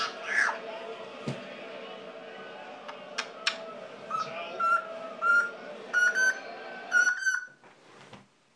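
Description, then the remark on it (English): A female pet parrot gives a run of short, shrill whistling squawks and chirps in quick bursts over a steady background murmur that cuts out near the end. “It's almost as if mute button works parrot.”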